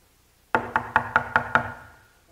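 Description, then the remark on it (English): Six quick, evenly spaced, loud knocks on a door, with a hollow wooden resonance that rings briefly after the last rap before fading to quiet. “I wonder who's at the door.”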